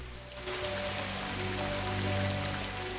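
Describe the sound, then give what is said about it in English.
Heavy rain pours steadily onto the water among mangrove roots in the Caribbean, a dense, continuous hiss of countless drops spattering the surface, fairly loud, with no voices and a faint low hum underneath. “From below, the surface of the water is alive with the constant rainfall spattering it into fluctuating patterns.”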